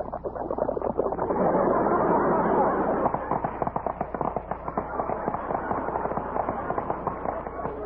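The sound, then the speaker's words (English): A dense, loud crackling burst gives way to a rapid, irregular string of sharp pops and snaps, like a volley of firecrackers, sounding somewhat muffled, as milk is poured over Snappies breakfast cereal. “But when you pour milk over Snappies, you get action.”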